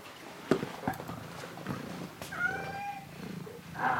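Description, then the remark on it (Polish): Cats meowing while standing by a foil-wrapped fridge as a can of cat food is fetched, with a drawn-out, wavering meow midway and another starting at the end, mixed with a few sharp clicks and soft knocking. No one speaks. “No bo przecież te koty wiszą na tej lodówce i zaraz by była podrapana.”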